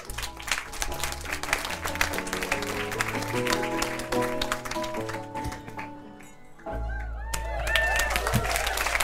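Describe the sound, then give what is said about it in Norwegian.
An audience applauds at Lille Ole Bull, a basement venue in Bergen filled to the brim, a dense, steady patter of many hands that swells slightly toward the end, with some sustained tonal sound running underneath the clapping. “Ja da, det klappes på Lille Ole Bull I Bergen.”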